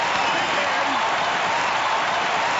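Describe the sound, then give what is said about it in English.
A big arena crowd cheers and applauds as Jesus Christ, the defending champion, comes into the ring, in one dense, unbroken roar of clapping and voices that holds steady and loud for a few seconds. “Listen to this crowd get...”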